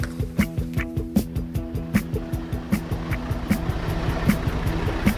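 A large truck's diesel engine idles at 7 a.m. in a parking lot in Villars-les-Dombes, between Bourg and Lyon: a steady low rumble with a rhythmic chugging pulse repeating about once a second, heard alone without voices.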